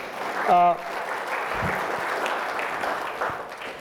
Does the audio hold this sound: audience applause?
yes